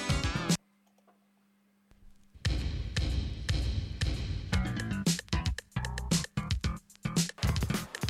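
An early French rap track from one of the very first French rap albums: a short burst of music, a near-silent gap with a low hum, then a dense, loud beat with punchy, rhythmic drum hits.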